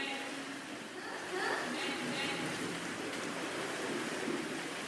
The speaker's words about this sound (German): 20 Kinder und 4 Schwimmlehrer tummeln sich im Seepferdchenkurs im Lehrschwimmbecken.